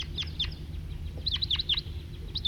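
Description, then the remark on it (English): Sharp, high chip calls from a flock of wild crossbills, repeated in quick overlapping bursts over a steady low rumble, with busier clusters of calls toward the middle and end. “40 on the side here, calling loud, pointed at the wild birds.”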